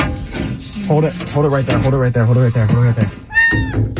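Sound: trapped cat meowing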